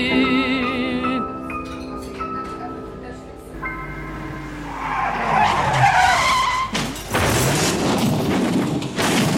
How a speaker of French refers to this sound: Septembre 1958. Et de trois, troisième accident de voiture. Cette fois, c'est Moustaki qui conduisait ma déesse.